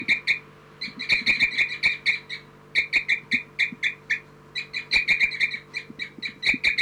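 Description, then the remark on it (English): A bird, 4-3, gives tubing calls at the nest while bird 3-3 is on the nest: rapid series of short, bright, mid-high pulses in rhythmic bursts with brief pauses, fairly loud, over a faint steady low hum. “This is for 4-3 tubing.”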